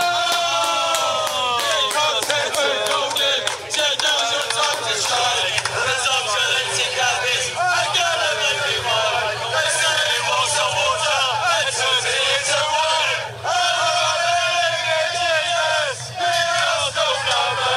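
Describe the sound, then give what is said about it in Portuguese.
A large crowd cheers and chants together, many voices singing loudly in unison without pause, rising and falling over a low steady rumble. “Som de aplausos pra você, PVC.”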